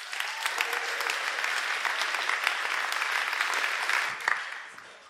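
Sustained audience applause, a dense steady wash of many hands clapping at even loudness for about five seconds, fading slightly at the very end with no voices over it.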